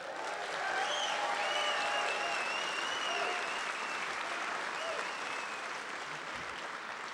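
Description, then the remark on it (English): A large concert crowd in the Bloomington Cultural District applauds steadily for several seconds to welcome a Latino rock band, a dense wash of clapping with scattered whistles and cheers rising above it, holding fairly loud throughout. “on behalf of the City of Bloomington and the Cultural District, we're thrilled to have another great crowd here tonight to welcome America's greatest Latino rockers,”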